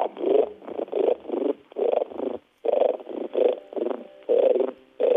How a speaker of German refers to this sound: Ja, dann nehmen wir den Grasfrosch, das ist ja der häufigste. Jetzt, wie gesagt, der knurrt und murrt nur so vor sich hin.